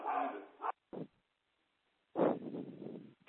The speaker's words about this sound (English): As you can tell, we're multimedia here. We now have the dog talking in the background to all of you.